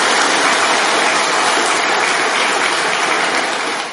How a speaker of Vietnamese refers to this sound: Xin cho một tràng pháo tay tán thán.